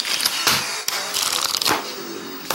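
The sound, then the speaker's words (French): Papery rustling and crisp flicks as paper is flipped, cut and stapled, mixed with a few real musical instruments in an Addictive TV video made for the 100th issue of IDN design magazine; several sharp bursts stand out from a steady, fairly loud crackle. No one speaks. “Du papier feuilleté, coupé, agrafé.”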